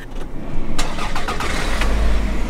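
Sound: car engine starting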